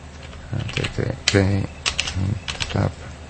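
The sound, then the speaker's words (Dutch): Scattered clicks of typing on a computer keyboard tap out, mixed with a person's low, indistinct murmuring voice that comes and goes throughout. “Ik had een goede vakje typen natuurlijk.”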